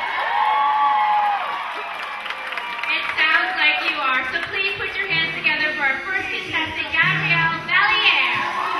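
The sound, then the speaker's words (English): A lively crowd cheers and whoops, with many overlapping high voices, and a woman in the audience shouts "You're hot" above the noisy, sustained cheering as a competitor takes the stage. “one of the women in the audience shouts, "You're hot."”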